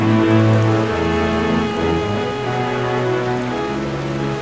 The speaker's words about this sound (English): The sounds of our family and friends kind of gathering and murmuring and discussing, combined with the sound of the rain hitting the tin roof, was really beautiful.